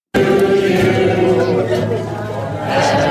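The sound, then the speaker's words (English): A crowd at the Loaded Goat in North Carolina sings Happy Birthday to Betty Lynn, seated at a table with a cake reading 92, in a loud, sustained group chorus, many people joining in with held notes and a busy sound. “a great video of just when they were singing Happy Birthday to Betty.”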